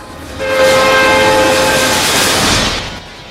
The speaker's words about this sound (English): She runs towards a freight train thundering along a track.